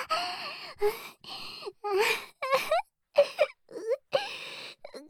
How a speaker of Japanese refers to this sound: これは嬉しくて泣いてるんだよ。